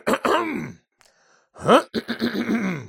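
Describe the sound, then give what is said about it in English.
A person with a slight cold clears their throat, two short voiced bursts separated by a brief pause, with a faint breathy sound between them and no spoken words. “Now, I actually have a little bit of a cold, so I might clear my throat.”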